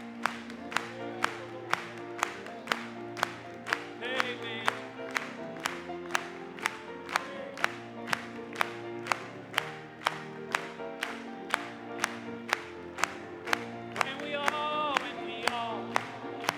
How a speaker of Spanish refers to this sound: Vamos a aplaudirle.